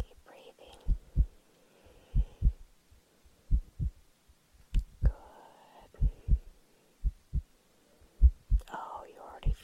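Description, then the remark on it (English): A steady human heartbeat heard with an ear pressed against a person's chest: muffled, low lub-dub thumps in pairs about every second and a quarter, with faint whispery breathing and a soft voice in the background. “See if you can hear my heart beating so, so steadily.”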